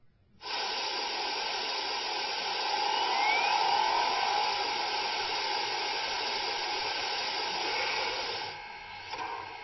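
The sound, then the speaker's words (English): A steady, loud hiss of steam from a steam locomotive being steamed up starts abruptly and holds for about eight seconds before easing off, with no voices. “Let's get her steamed up.”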